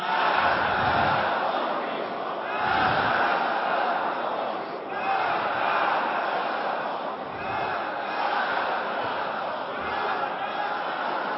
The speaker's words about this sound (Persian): نقدن این هفته رو از مصلای کرج بشنو که مردم نمازگزار چگونه یک صدا با محکم میگویند.